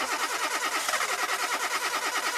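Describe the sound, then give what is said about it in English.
A car engine cranks over and over in a steady, rhythmic chug as the key is turned, never catching or starting. The whirring starter is fairly loud, and no one speaks. “If you get in your car, turn the key and hear this.”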